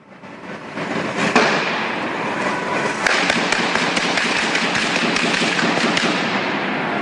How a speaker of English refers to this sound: here's some of the dramatic footage outside of the police involved in a gun battle with the terrorist. Here it is.